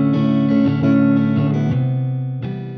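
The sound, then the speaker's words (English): A guitar strums a slow pattern of the chords C major 7, A minor 7, E minor 7 and D major 7, about six strums, each ringing out and smearing into the next under a heavy, washed-out reverb. No voices. “a strum guitar pattern playing the chords C major 7, A minor 7, E minor 7, and D major 7.”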